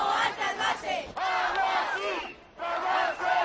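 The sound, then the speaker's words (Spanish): About a thousand protesters, with the mayors of 22 riverside municipalities of Guadalajara and Cuenca provinces, shout together in loud, rising and falling chants, demanding the Ministry of Agriculture stop water transfers from Castilla-La Mancha to Murcia, with a brief dip in volume before the massed voices surge again. “los alcaldes de los 22 municipios ribereños y vecinos de las provincias de Guadalajara y Cuenca se han unido a un millar de personas para pedir a gritos al Ministerio de Agricultura que frenen los trasvases de agua de Castilla-La Mancha a Murcia.”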